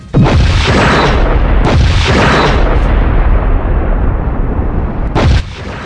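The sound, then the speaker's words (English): A massive, loud explosive impact with deep booming rumble and crackling debris, sustained for several seconds with renewed bursts, as a smaller Jem'Hadar warship slams into the port nacelle of the starship Maverick; no speech present. “The smaller craft slammed hard into the Maverick's port nacelle.”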